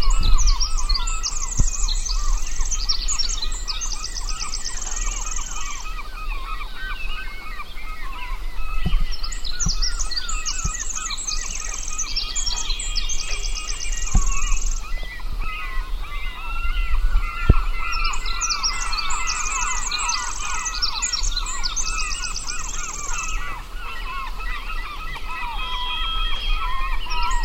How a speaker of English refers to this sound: Which one's next? The Pacific Wren.